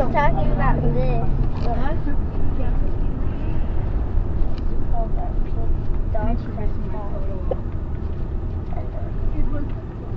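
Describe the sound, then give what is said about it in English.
A steady, loud low rumble of a moving vehicle's interior fills the whole stretch, with several people chatting over the engine and road noise. “I feel like I'm in a school bus.”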